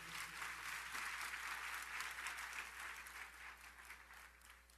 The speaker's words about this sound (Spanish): Vamos a dar un aplauso al Señor, porque Él viene pronto.